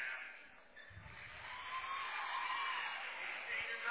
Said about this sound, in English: Yeah, and a fan favorite, too. We've also heard that tonight as she knocked down several threes, and, big round of applause for her there.